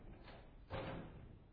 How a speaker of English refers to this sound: I hope it doesn't do that during the night as burglars walk in. Those of you back there, the door just opened.